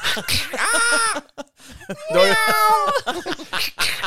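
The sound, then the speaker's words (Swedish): A person does two drawn-out, wavering meows in a high, nasal voice, imitating a cat, with brief vocal sounds around them. Fairly loud. “Jag är, I'm a cat.”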